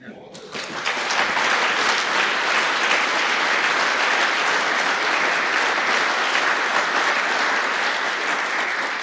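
An audience breaks into sustained applause, a dense, even wash of many hands clapping that rises quickly at the start and holds steady at a fairly loud level throughout.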